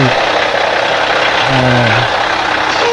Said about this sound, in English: Oh, here's a truck running in here.